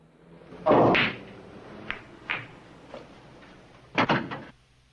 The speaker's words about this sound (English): Coogan shuts the door and stands in front of it.